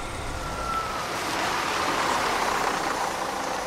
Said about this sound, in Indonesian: Tak lama bis pun berhenti.